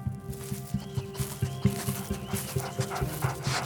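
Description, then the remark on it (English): A dog searching a trail for IEDs pants in quick, steady breaths, a rhythmic string of airy huffs over a faint steady hum in the background. “You're walking a trail with a dog looking for IEDs.”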